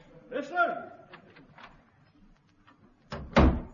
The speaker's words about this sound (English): I don't think that was it. No. Sounded more like a door closing.